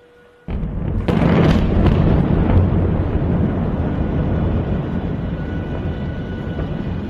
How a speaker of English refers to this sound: And overnight, there were more explosions in the southern suburbs of the capital, Beirut, where Hezbollah is based.